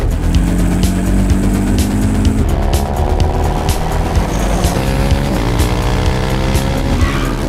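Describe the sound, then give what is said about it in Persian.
A car engine roars continuously, its pitch rising and falling in uneven surges as if revving and shifting hard, with brief tire squeals and clattering bursts over the loud, steady drone. No one speaks. “آبلو یکم بهتر رانندگی کن، اینجا شبیه چرخ و فلک شده.”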